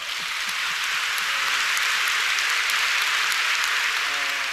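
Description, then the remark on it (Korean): An audience at a church service broadcast live on television applauds enthusiastically for the viewers watching at home, a dense, steady wash of many hands clapping at once that holds at full strength for the whole stretch, with no voices standing out. “生放送で見ておられるテレビの向こうの人に私たちが情熱を持って拍手を送りましょう。”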